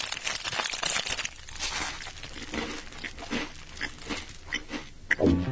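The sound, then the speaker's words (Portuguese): A plastic bag of Torcida snack chips crinkles and rustles in bursts of dry, crackly noise as they are eaten, with occasional louder crunches and rustles throughout and no talking. “Eu tô aqui, inclusive, comendo um torcida. Aí, ó, vocês estão servidos?”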